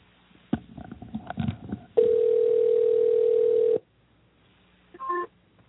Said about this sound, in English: I like how much faster it's ringing now. Yes.